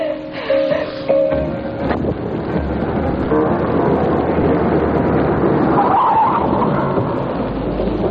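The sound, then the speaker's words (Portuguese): A car rumbles in over a dense, steady roar of noise, then gives a brief high squeal of brakes as it pulls to a stop, with no voices. “Aí vem ele. Parou o carro e vai saltar.”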